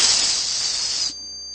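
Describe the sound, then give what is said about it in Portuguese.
A voice imitates a snake's hiss with one sustained, bright "sss" lasting about a second, fairly loud and steady, then cutting off abruptly into near silence. “Vocês já perceberam que na maioria das línguas, o número 6 começa com o som da serpente?”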